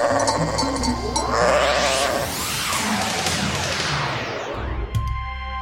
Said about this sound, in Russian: А вон отец Гавриил идет, ведет отару овец с пастбища.